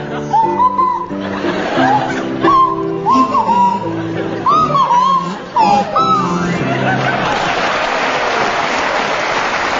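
Jeremy Hardy on kazoo and Tim Brooke-Taylor on swanee whistle play a wobbly tune together for several seconds, the whistle sliding between notes, then the music gives way to a burst of audience laughter and applause.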